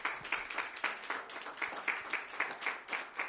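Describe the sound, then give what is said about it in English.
An audience clapping hands together to give praise, in a steady, fairly quick rhythm, many sharp overlapping claps forming a bright, moderately loud patter with no voices. “Let's just clap your hands and give him some praise.”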